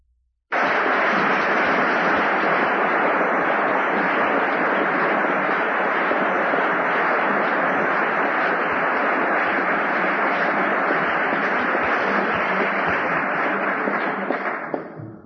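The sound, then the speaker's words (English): An audience bursts into steady, dense applause for Mr. David Wieda and his organization, the sponsor of the evening, that starts abruptly and holds at an even, loud level for about fourteen seconds before beginning to taper at the very end. “Since that may well be our last moment of unanimous applause throughout the evening, it is probably a good thing that I started with it.”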